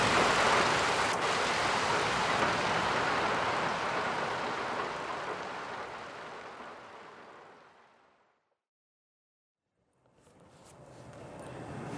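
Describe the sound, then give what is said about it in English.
Steady, dense rain hisses loudly for several seconds, then fades away into brief silence before the downpour sound returns near the end. No voices. “The rain did not last, though.”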